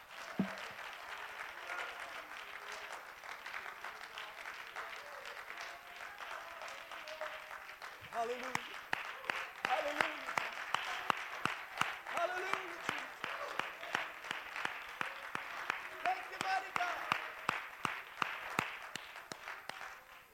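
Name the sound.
audience clapping hands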